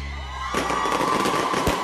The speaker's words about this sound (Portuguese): Escuta aí o barulho do foguete.